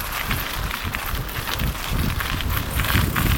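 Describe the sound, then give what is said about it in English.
Mountain bike tyres rolling over crunchy gravel at night at the Landegla trail centre just outside Wrexham, Wales, four riders out on a warm, dry evening: a steady, continuous gritty crackle and rumble with no pauses, holding an even loudness throughout and swelling slightly toward the end. No one speaks. “And as you can probably hear, it's got a kind of crunchy gravel surface for the most part.”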